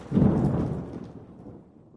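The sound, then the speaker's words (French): A loud, deep thunderclap rumbles up suddenly and rolls away over two seconds, with a wash of rain hissing underneath as the storm noise slowly fades. “Cette nuit, il y a un terrible orage.”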